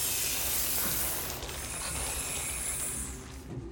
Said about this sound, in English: Jude comes face to face with a hissing snake, stops dead, and winces.